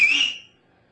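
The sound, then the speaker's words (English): A single loud, shrill two-finger whistle rings out sharply for under half a second, then cuts off and fades into near silence. No one speaks. “Okay, now put your two fingers in your mouth and give us a whistle that's going to resound through the centuries.”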